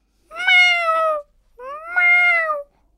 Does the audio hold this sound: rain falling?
no